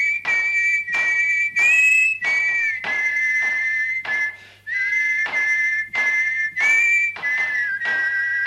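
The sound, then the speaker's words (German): A lively dance tune is whistled while feet stamp out a steady, regular beat beneath it, continuing without pause and with no talking. “Wenn man zum Beispiel für Tanzlieder keine Musikkapelle hatte, hat man selber gestampft und pfeifen oder auf Lala gesungen.”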